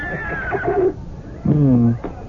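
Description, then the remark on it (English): A horse, a charger, snorts and calls out twice in close succession, loud, the second burst deeper and stronger, with no talking over it. “Oh, you listen to how he snorts with pride, Your Majesty.”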